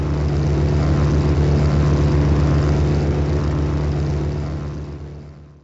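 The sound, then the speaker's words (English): A propeller airplane drones steadily and loudly with a deep, throbbing hum, holding constant for several seconds before fading away as it recedes. No voices. “I don't fly anymore, but there are new airplanes in the hangar, faster and safer, and capable of crossing continents and oceans.”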